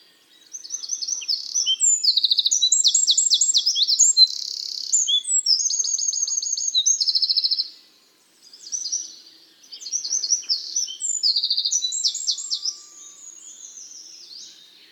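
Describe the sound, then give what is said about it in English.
A wren sings a loud, rapid burst of trills and sharp high notes, nearly continuous for several seconds, then pauses briefly before launching into another vigorous phrase, with no voices. “The wren, on the other hand, despite being only fractionally less tiny, punches well above its weight with one of the loudest songs of all our garden birds.”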